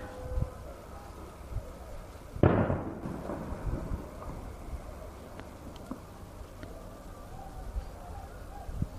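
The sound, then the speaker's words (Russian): A single sharp gunshot, rubber bullets or tear gas fired by soldiers from beyond the fence separating a settlement from Arab neighbours at about 3 o'clock, cracks out and fades with a brief echoing tail, set against a steady low rumble of background noise. “Это стреляют такими резиновыми, вот еще один, резиновыми пулями или таким слезоточивым газом.”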